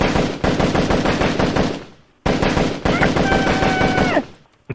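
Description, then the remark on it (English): Rapid automatic gunfire from the video game Ghost, two long bursts of fast, evenly spaced shots with a short gap between them, the second burst joined by a steady high-pitched tonal whine before cutting off. “Guns like this.”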